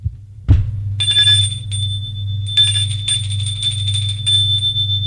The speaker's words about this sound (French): On a sonné à la porte d'entrée.